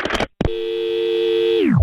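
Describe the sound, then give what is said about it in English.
A brief rustling burst, then a steady, loud telephone tone holds for about a second before sliding sharply downward in pitch and cutting off, as a phone call is being made. No one speaks. “I'm going to make a phone call.”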